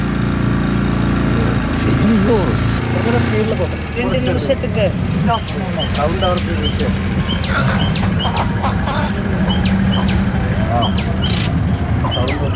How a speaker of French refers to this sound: Oh, c'est formidable quand ça s'arrête. Hein. C'est pour ça que ça a été inventé, le moteur des bateaux. C'est pour ce bonheur qu'on éprouve quand ça s'arrête.